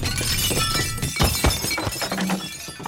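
glass shattering

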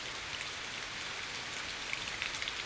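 rain falling

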